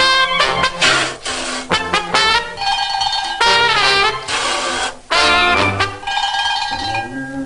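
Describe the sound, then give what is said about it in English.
A loud bell clangs several times in a row, signalling round two, its bright metallic ringing tones overlapping and sustaining between strikes, with no one speaking. “And there's the bell for round two.”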